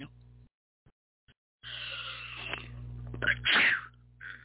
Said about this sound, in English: Excuse me, I had to sneeze and didn't want to blow your eardrums out.